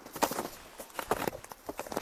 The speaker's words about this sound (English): You can hear that different sound in my snowshoes. That's because I'm out on the ice now, on this wild mountain pond.